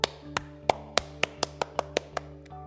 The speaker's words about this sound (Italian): È per salutare quando mi acclamano, ma non passa mai nessuno. Dai, applaudi.